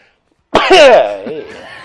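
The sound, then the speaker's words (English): After a brief silence, a single loud sneeze bursts out with a sharp breathy onset, then trails into a voiced, drawn-out tail, sounding like a person acting out an exaggerated sneeze as if Dice were sneezing. “If Dice were to sneeze.”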